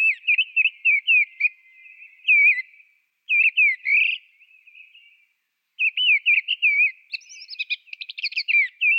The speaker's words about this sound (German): Okay, wir hören rein in die Misteldrossel. So ein bisschen amselig, aber so sehr schön, sehr klar. Ich spiele sie einfach ab.